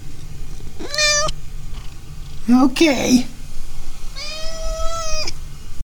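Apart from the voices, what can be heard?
cat meowing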